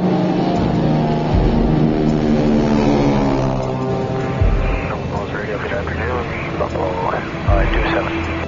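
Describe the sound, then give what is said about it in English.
Loud, steady drone of the propeller engines of a C-46 airplane in flight, a heavy aircraft, a dense, throbbing hum that fills the whole stretch, with faint voices talking underneath partway through. “I'm very aware of what a temperamental airplane the C-46 is.”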